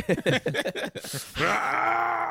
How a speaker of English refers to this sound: That's how I sound when I try to fight a yawn.